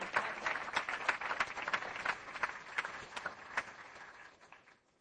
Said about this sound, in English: Thank you. Thank you very much. Let's have some applause.